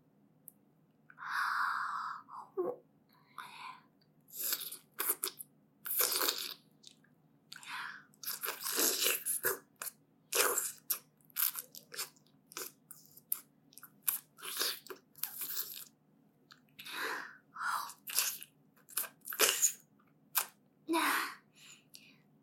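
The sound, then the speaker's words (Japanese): Wet mouth sounds of sucking and licking repeat throughout, a steady series of short smacking, slurping bursts with brief pauses between them, fairly loud and with no talking. “早くしゃぶってほしいって顔してるね。まずは、先っぽの我慢汁から。”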